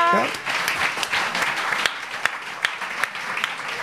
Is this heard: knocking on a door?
no